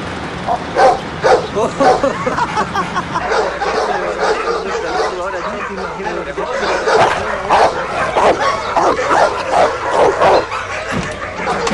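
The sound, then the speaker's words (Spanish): A dog barks and yips repeatedly in quick, uneven bursts, fairly loud, over a busy background with what sounds like people chattering. “Le preparo el perro, le doy casa, comida y vamos 50 y 50 de las ganancias que del perro.”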